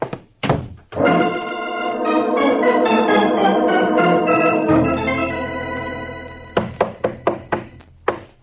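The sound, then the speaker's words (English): A sergeant pounds with his knuckles on a locked door: a couple of thuds open, a long sustained droning tone fills the middle, then a rapid burst of six or seven loud, dull blows closes it. No one speaks. “Are you coming on that door, Sergeant? I ain't made a dent in it yet. Well, save your knuckles.”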